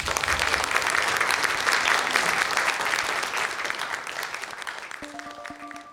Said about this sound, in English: And please, a round of applause for everyone who shared a story.